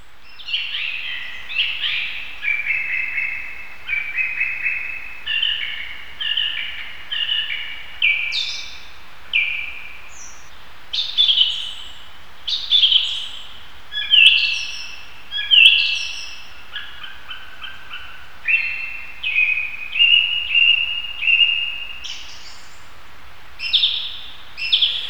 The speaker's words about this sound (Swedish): På våren kommer tre sorters trastar hit till skogen. De hittar gott om både insekter och mask att äta och senare mata sina ungar med. Koltrasten, rövingetrasten och den som hörs här, taltrasten.